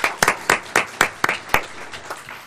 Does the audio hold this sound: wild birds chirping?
no